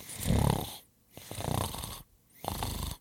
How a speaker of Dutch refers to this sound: Tek doet het licht uit. Welterusten Tek, welterusten Mahir. Tek begint meteen zacht te snurken.